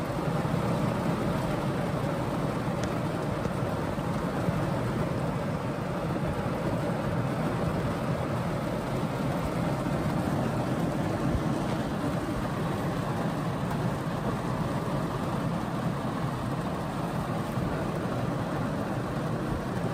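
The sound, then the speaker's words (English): A dense, steady roar of heavy rain pours down without letup, loud, a broad hiss filling the whole stretch with no voices. “Dude, I never seen this much rain in fucking years.”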